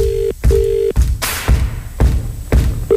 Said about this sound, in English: Okay, let's do it. Let's make that call. Ooh, bit of a ringing tone, that's good.